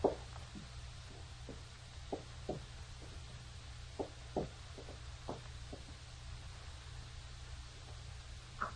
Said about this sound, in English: Someone walking. Yes. That man walking with his cane. Suppose it is he walking down the hall.